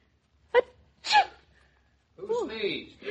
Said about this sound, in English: Who sneezed? We both sneezed. Both of you?